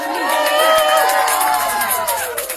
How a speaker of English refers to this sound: Merci, merci, merci, merci. C'est sympa. Mais les applaudissements n'étaient pas pour moi